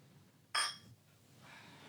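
A single bright glassy clink rings out, a quick toast of glasses or bottles of Helles beer touching, with a short ringing decay that fades into quiet.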